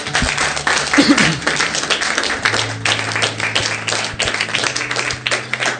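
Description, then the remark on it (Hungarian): An audience applauds steadily for several seconds for people who have just prayed to accept Jesus, a dense, even wash of many hands clapping with a few voices faintly mixed in beneath. “És tapsoljuk meg ezeket az embereket.”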